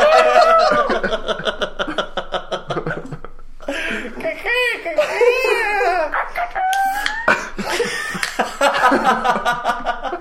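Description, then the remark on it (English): A rooster crow sound effect rings out in the middle, loud, with its rising and falling call, while people laugh and chatter before and after it. “It's closer to a rooster than it is an elephant.”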